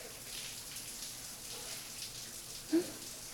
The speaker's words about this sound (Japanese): じゃあ、シャワーのお湯はどうかしら。